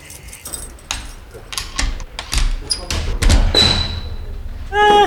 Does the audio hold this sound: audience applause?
no